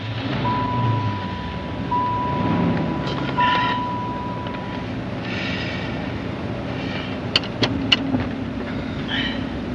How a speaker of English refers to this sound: Well, here we go. Are you ready? The roar of the engine.